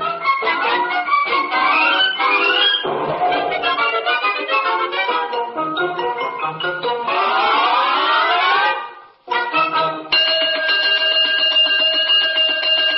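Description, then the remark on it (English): A loud, continuous alarm effect rings out, with warbling, sweeping tones that briefly cut out near the end before a steady, clanging ring resumes. No voices. “The cosmic alarm, which means I fear some woeful harm is afoot or a wing in the universe.”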